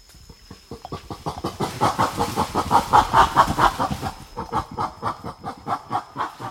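Female western gorillas in their forest habitat bark in a rapid, loud rhythmic series of harsh calls as they get angry with each other, rising into shrill screaming bursts before easing into quieter, evenly pulsed barks.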